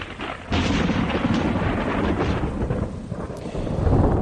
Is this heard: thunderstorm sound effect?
yes